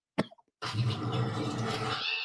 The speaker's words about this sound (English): And it's funny because that noise right there, I mean, we use it for Peacock because it sounds like a bird